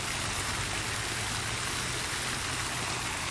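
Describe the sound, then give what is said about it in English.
Water rushes and splashes down the stone steps of a sculptural fountain at a public library south of Atlanta in a steady, dense hiss, with a low rumbling undertone running unbroken throughout and no voices. “This is a public library that happens to have a beautiful sculptural fountain, and I'm going to approach it a little bit closer and let you hear the soothing sounds of the water as it cascades down the fountain steps.”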